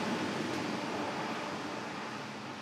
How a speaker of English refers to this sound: So most of the noise that you hear is air conditioning fans. There's a cool system where they blow cold air in down every other aisle, and they suck the warmed air up in the intermediate aisles.